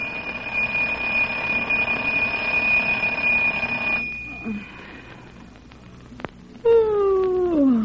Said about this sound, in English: Time is the next day, early afternoon. The scene is the apartment of Mert and Marge. As we come in, we hear the alarm clock ringing.